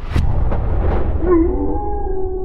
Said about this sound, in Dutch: De hond van onze chef Mark, die we net hoorden, die stamt toch ook af van de wolf?